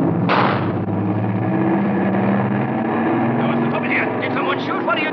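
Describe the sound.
A single sharp gunshot, shooting Major Strasser in Casablanca, cracks out near the start, then a steady, loud engine drone like an aircraft fills the rest, with faint voices underneath.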